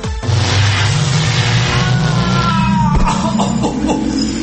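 A sci-fi time machine powering up: a loud, continuous deep rumble with a sweeping whoosh and ringing metallic tones, swelling and then thudding near the end, with no voices.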